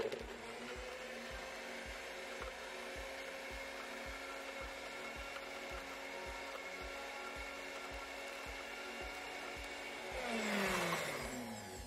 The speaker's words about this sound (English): So we'll throw in some lemon, throw in a handful of ginger, and we'll blend that up. It's as simple as that. And then we're going to pour that over some sliced apple. Excuse me, I'm just going to make some noise.